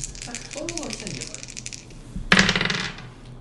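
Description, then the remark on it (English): Hard plastic clatter of two percentile dice, one for tens and one for ones, tumbling across a tabletop: a quick rattling burst near the start under a brief voice, then a louder, sharper spill of clicks that skitters and settles. “Yeah, but I think you do have a percentile dice?”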